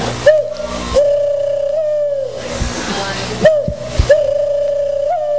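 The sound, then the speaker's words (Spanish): A person mimics the soft, rolling coo of an African collared dove with the voice, two drawn-out purring calls separated by a brief pause, fairly loud over a steady low hum. “La paloma africana.”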